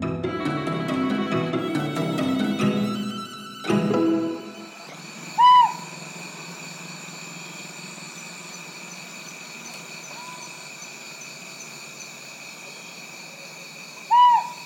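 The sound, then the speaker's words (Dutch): A Rinjani scops owl hoots on Lombok, two short clear whistled notes spaced several seconds apart, after a brief stretch of music, over a steady high insect drone in a quiet night setting. “En dit is een uiltje wat ontdekt is omdat er mensen, biologen, daar begin jaren 2000 rondliepen om iets anders te doen.”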